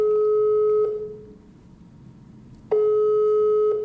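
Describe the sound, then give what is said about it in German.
A telephone ringing tone heard over the line as a phone rings in Iran: a steady, clear electronic hum sounds, falls silent for a couple of seconds, then starts again, alone and fairly loud. “Dieses Telefon klingelt im Iran.”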